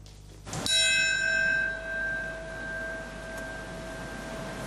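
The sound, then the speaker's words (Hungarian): A single deep memorial bell strike at Ground Zero in New York at exactly 8:46 a.m., marking the moment the first plane hit the World Trade Center ten years earlier, rings out clearly, its tone humming and slowly fading over several seconds with no voices present. “New Yorkban a zérópontnál pontosan reggel 8 óra 46 perckor egy harangütés, majd egy perces csönd jelezte az Egyesült Államok története legpusztítóbb terrortámadásának első pillanatát.”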